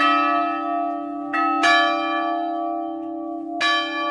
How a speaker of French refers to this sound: Alors pour Pâques, on ne peut pas sonner les cloches au battant, à la bélière, parce qu'elles se balancent. Donc on les sonne à la volée. La cloche des dames arrive doucement. Puis la cloche des hommes va l'accompagner.